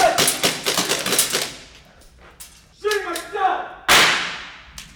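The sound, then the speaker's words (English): Sharp, cracking gunshots ring out from a pretend shooter during a simulated school shooting exercise: a rapid burst of snaps at first, then a few scattered reports and one loud blast near the end that trails off. A muffled voice is briefly heard between shots. “He carefully but quickly shuffles toward the sound of gunshots.”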